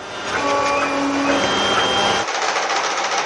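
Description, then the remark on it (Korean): A 3D printer at the West End Library, a public library in Washington, DC, that local residents can use, running with its motors giving a steady mechanical whir with shifting high-pitched whines that change character partway through. No voices. “웨스트엔드 도서관에선 3차원 프린터나 재봉틀 등도 갖춰놓고 지역 주민들의 필요에 따라 마음껏 사용할 수 있는데요.”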